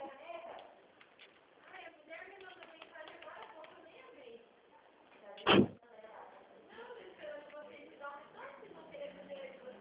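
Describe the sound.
People talk quietly as a single loud, sharp door bang cuts in midway, a brief knock like a door being pulled or lifted loose, then the conversation carries on.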